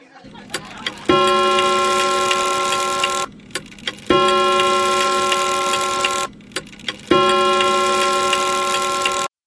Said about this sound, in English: Oh my, the clock, it chimes.